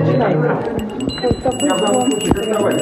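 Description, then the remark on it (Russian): A small metal souvenir bell bearing the flag of Slovakia, shown at a bell exhibition, rings continuously with bright, high-pitched tinkling tones that hang in the air, while people talk over it. “Колокольчик с флагом Словакии.”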